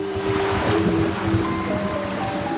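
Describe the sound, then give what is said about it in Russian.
Ocean waves surge and splash in a steady, loud rush of surf, with a faint musical tone drifting underneath and no voices. “Нож дрогнул в руках русалочки, но еще мгновение, и она бросила его в волны, которые покраснели, точно окрасились кровью в том месте, где он упал.”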